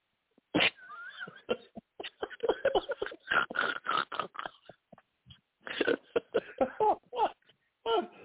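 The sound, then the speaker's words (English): A fit of repeated coughing in quick, uneven bursts, mixed with strained, wheezy vocal sounds between hacks. It is fairly loud with short pauses and no clear speech. “That was got me coughing over here.”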